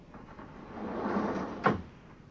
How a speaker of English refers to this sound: Door, of course, is automatic. I just press this button here, so.